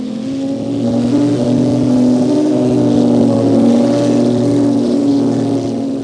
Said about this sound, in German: Das alte, klapprige Auto der Familie Thunderstorm hebt sich mit einem Mal in die Luft und düst wenige Meter über den anderen Autos dahin, macht einen 2 Meter Lufthopser an einer Brücke und landet sanft ein paar Kilometer weiter